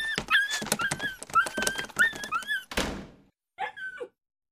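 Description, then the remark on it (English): A dog named Frogger yelps in a rapid string of short, high-pitched cries over scuffling thumps, then a noisy rush, a brief pause, and one last whimpering yelp. “Oh, come on, you stupid dog.”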